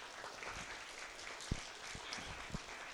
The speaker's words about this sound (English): So let's have mothers who are here to stand and just briefly recognize them with a round of applause and just recognizing their contribution to their families.